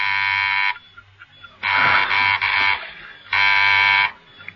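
A harsh electric doorbell buzzer rings at the door of a clockmaker's workshop in a coded pattern: one long buzz, a cluster of short choppy bursts, then another long buzz, loud and steady-pitched with brief quiet gaps between.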